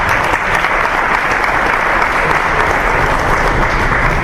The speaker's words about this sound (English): Now, are we clapping to get away from the fact that actually we should be booing?